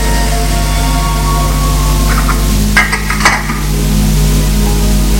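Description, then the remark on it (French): Dishes being washed: a steady hiss of running water with a short burst of clinking and clattering plates near the middle, moderately loud. “Après avoir mangé, ils ont fait la vaisselle ensemble.”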